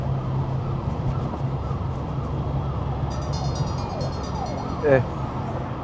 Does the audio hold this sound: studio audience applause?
no